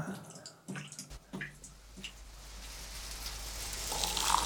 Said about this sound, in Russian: Приходил ко мне сантехник. Матерился, как балда. Ай, а когда ушел с бутылкой, снова капает вода.